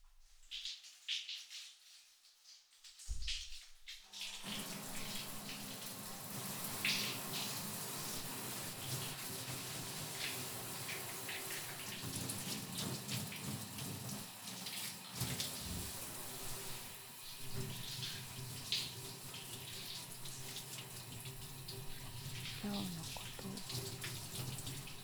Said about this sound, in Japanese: もう一回シャワーだ。